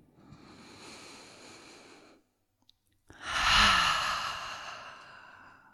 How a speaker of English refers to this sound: And let's do another three full breaths, just the way we are moving the body, breathing, being right here.